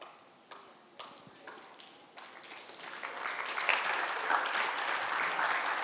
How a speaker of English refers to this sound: Come on, you would be clapping louder than that if I was giving everyone here two bottles of Grange.